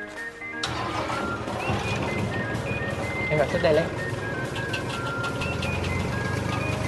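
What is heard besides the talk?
tractor engine running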